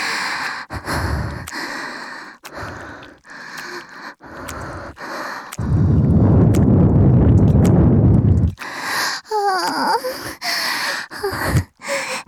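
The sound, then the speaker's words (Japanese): Breathy puffs blown right into the ear, a series of short airy bursts followed by one long, loud, rushing exhale, then more soft breaths, with no talking. “吐息がお耳にいっぱい当たっちゃってるわね。”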